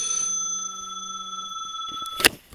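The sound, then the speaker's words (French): A telephone rings during a spoken lecture, with a bright, sustained bell tone that holds for about two seconds and then fades, followed by a short sharp clatter. No one speaks. “Donc reprenons après cette interruption du téléphone, excusez-moi.”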